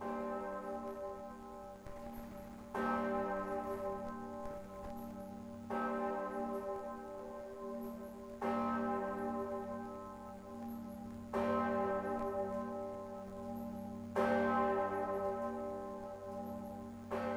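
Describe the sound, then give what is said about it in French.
A deep, heavy bourdon church bell tolls slowly, about six strikes roughly three seconds apart, each ringing out with a long, humming decay that overlaps the next. No voices are heard. “Sans compter que le bourdon est aussi le nom d'une cloche.”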